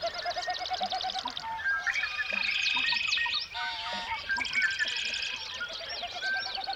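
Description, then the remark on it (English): A dense dawn chorus of many songbirds singing at once as the sun begins to rise in the morning, overlapping trills, whistles and chirps filling the air continuously, no talking. “Each morning, right as the sun begins to rise, birds sing forth in a symphony of song.”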